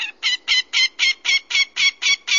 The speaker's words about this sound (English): So the American widgeon, what kind of a bird is that? Well, it's a dabbling duck, just like a mallard, and it's very similar in size to a mallard. So a dabbling duck is the one that eats vegetation, aquatic insects, that kind of thing.